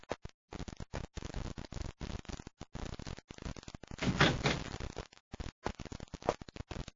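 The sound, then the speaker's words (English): A door opens or shuts, with a louder, rougher burst about midway through, surrounded by stop-start shuffling and clattering. “Commander, someone's at the door.”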